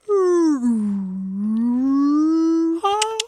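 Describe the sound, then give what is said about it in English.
A person's voice imitates a whale call: a long, loud, sustained moaning tone that dips low and slowly rises again, ending with a brief higher break, with no other talk. “Can you do your impression of a whale?”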